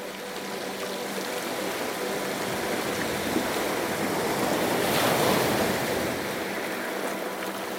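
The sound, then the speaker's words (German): A warm wind blows into a bay at sunset and rustles palm leaves in a steady, continuous hiss, with soft surf washing underneath and a gentle swell in loudness near the middle. No voices are present. “Ein lauer Wind weht in die Bucht und lässt die Palmenblätter leise rascheln.”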